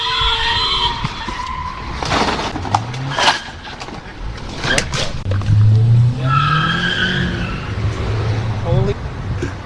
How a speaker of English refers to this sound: But another hit-and-run happens behind him live while he's doing his stand-up. You see Hoover Street here. Officials say it's one of the most dangerous streets in all of Los Angeles.